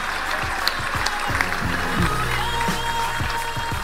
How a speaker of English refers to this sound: Yeah. A round of applause for Brandon Stanton. Thank you.